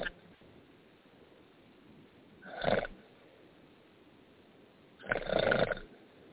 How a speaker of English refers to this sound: What is that noise? Somebody grinding some gears? Sounds like a milkshake. Soda or they're snoring. I think it sounds more like a snore. It's a weird sounding snore.